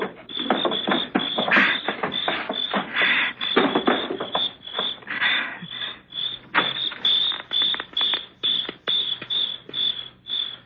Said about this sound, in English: Help me with this table in front of the door. I don't want to slide it.